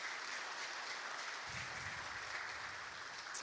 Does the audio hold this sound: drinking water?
no